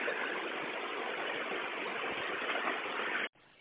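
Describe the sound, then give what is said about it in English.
A bus engine with its check engine light on idles with a steady, unbroken hiss-like rumble for about three seconds, running but not accelerating, then cuts off abruptly into quieter background noise. No one speaks. “Yeah, it's like, I lost, like, there, I step on the accelerator and it's nothing, but the engine's running.”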